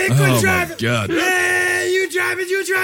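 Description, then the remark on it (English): A person imitates the ghostly scream of a crybaby bridge, the Screaming Bridge of Maude Hughes Road, letting out a loud, sustained, wavering wail that rises and dips in pitch for a few seconds. “Well, one of the other crybaby bridges that I found was called the Screaming Bridge of Maude Hughes Road.”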